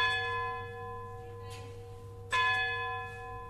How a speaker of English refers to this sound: Just as the town clock looming above me out of the fog starts to strike out midnight. As it's done more or less for 200 years.